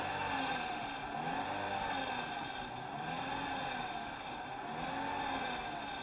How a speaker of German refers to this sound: Das tut richtig weh, ne? Rappelt Auspuffblech oder so.